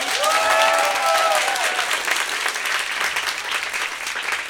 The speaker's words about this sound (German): Also bitte alle einmal klatschen, die für die Schildkröte sind.